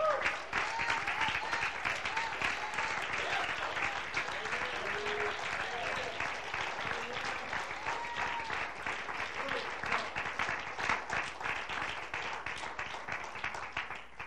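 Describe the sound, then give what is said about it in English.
Sustained crowd applause for a statement, dense and steady, with faint voices and murmurs mixed into the clapping. “A lot of people who clap for that statement, they're clapping because they want to see it around them.”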